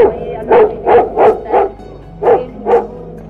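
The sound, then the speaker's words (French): A German shepherd named Nicky barks six times in quick succession, four rapid barks followed by a short pause and two more, loud with a deep, full tone and no talking. “Cet aboiement, c'est celui de Nicky, le berger allemand de Madame Merveille.”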